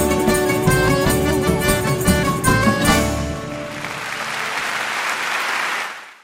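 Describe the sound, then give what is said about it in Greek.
On the Greek radio programme 'Kati gia to dromo', a song with sustained instrumental tones ends, and a loud, dense burst of applause from a large crowd takes over, steady for about three seconds before cutting off. “Έτσι, τεράστιο χειροκρότημα.”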